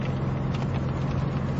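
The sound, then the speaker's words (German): Steady rain pattering in a dense, continuous hiss over a low, constant engine-like drone, even throughout, with no talking, during a thunderstorm with lightning on the road to the village of Klushino. “Es regnet, es blitzt und es donnert.”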